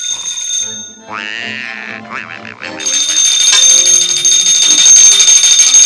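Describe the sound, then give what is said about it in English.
A telephone on the wall rings loudly and continuously in a cartoon office labeled Ajax Ghost Exterminators where Mickey, Goofy, and Donald snooze, a bright jangling bell that starts a few seconds in after some warbling, pulsing cartoonish sounds and keeps going to the end. “Their phone rings.”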